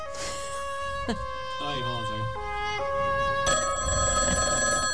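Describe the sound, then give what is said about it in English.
A telephone rings steadily for the whole stretch, a bright, buzzing, bell-like electronic trill whose pitch pattern shifts a few times while staying loud and unbroken. “Maybe pick it up on two rings.”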